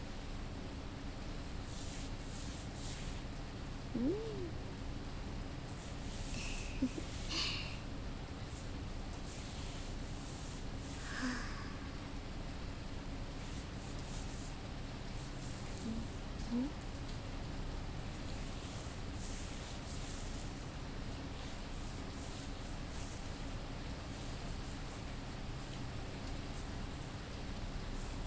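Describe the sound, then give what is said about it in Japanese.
Steady rain falls continuously in a dense, even hiss, with occasional brief brighter patters and faint chirps rising now and then above the constant wash. No one speaks. “ただの雨音だけど、私のお気に入りなの。”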